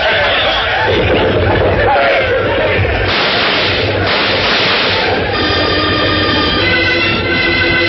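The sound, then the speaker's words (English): A group of men whoops and hollers war cries imitating Comanche yells, a loud, continuous, overlapping din of high yelps and shouts that holds steady for the whole stretch with a rumbling undertone beneath. “Now, here we go. And yell. Yell just like Comanche.”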